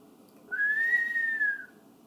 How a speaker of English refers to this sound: Because I can't just keep whistling.